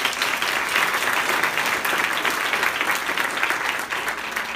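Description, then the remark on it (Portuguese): A crowd at a meeting applauds a participant for booking meeting confirmations: many hands clapping steadily in a dense, continuous wash of sound that holds at an even, fairly loud level throughout without pause. “Uma salva de palmas”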